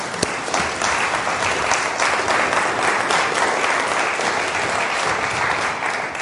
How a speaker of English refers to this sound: Fantastic. Let's give him a clap again. It's so wonderful, isn't it?